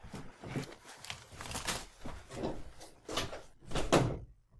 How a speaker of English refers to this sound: I hear stomping.